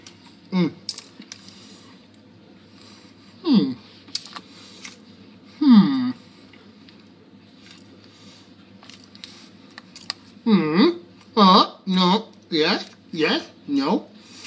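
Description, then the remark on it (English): Someone chews a bite of mince pie with thin pastry and a smattering of icing sugar on top, with a few scattered crunchy mouth sounds followed by a quicker run of about six rhythmic chews, while low murmuring vocal noises accompany the eating. “Sorry, I'm just making noises while I eat.”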